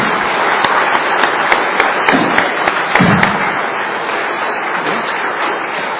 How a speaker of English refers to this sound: Okay, they're even clapping for themselves as well, so they are. So a big shout out to these young ones, and thank you very much indeed.